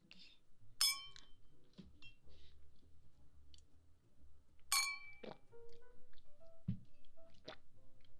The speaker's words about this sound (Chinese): 如果没有看错的话，这瓶可是82年的拉菲吧？那我可是太荣幸了。好吧，盛情难却，那就干杯。